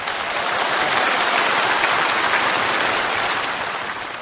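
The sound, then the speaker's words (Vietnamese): Sustained audience applause fills the whole stretch, a dense wash of many hands clapping at steady loudness before easing slightly at the end, with no voices over it, as company employees thank the company leadership for treating them to a vegetarian lunch. “Và sư cũng rất là cảm ơn, tri ân cái ban lãnh đạo của công ty này có nói với sư là trưa hôm nay chiêu đãi anh chị em công nhân viên bằng một bữa cơm chay vegetarian food, rất là hài lòng, rất là cảm ơn và xin cho một tràng pháo tay về điều này.”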